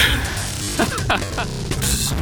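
An induction coil jams about 10,000 volts into the back of a boombox, giving a steady electrical buzz with crackling static throughout, a low hum underneath and scattered sharp crackles popping through the hiss at an even, fairly loud level.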